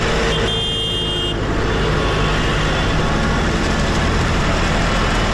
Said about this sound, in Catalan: Més tocs de botzina. Aquest era el moment en què els tractors arribaven al recinte firal des Mercadal a Menorca, convocats per les organitzacions també agràries. Una protesta dels pagesos que ha plegat en el cas de Menorca més de 150 persones